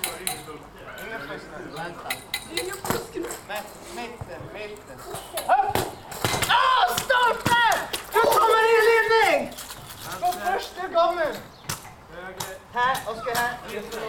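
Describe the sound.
A football strikes a metal goal post with a sharp clang, among several thuds and knocks, while voices shout and call out, on a court about the size of a basketball court with goals about the size of handball goals.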